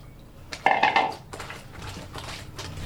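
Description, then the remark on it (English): Laundry being scrubbed by hand in water drawn from a water reserve in Jalisco: a burst of clattering, clinking handling gives way to a series of soft, uneven rubbing and sloshing strokes, with no talking. “And I just scrub.”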